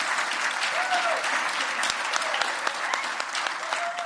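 Sustained audience applause for the Jamestown Fine Arts Association, winner of the 2019 Governor's Award in the Arts Organization category: a dense steady patter of many hands clapping at even loudness throughout, with a faint whistle-like tone and a few sharper claps standing out.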